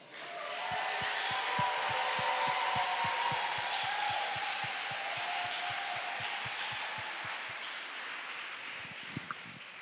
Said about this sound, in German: Wow. Lass uns vielleicht noch einen größeren Applaus geben für Jesus.